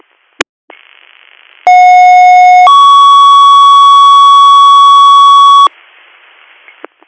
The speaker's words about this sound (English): Mickey 36, you're in service at 0947 with a DR of 380, 380, standby for Tones.